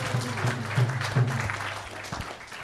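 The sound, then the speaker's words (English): A crowd claps steadily, a dense patter of many hands that holds fairly even for a few seconds, with a low hum running underneath and no voices standing out. “So let's give him a big applause.”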